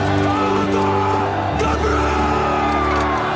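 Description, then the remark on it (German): A single voice bellows a long, drawn-out Scottish battle cry from a film, loud, with a rough crowd-like roar swelling underneath before the shout shifts pitch partway through. “Und auch diesen Ausspruch, diesen Schrei, den ihr am Ende hört.”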